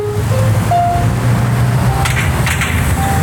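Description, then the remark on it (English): Steady, loud rumble of street traffic just off southbound Mexico 1 in Tijuana, Mexico, fills the whole stretch, low and constant, with a few faint sustained piano notes drifting faintly above it. “Just off of southbound Mexico 1 in Tijuana, jugglers entertain drivers, and just below the din of traffic, if you listen carefully, you can hear a piano.”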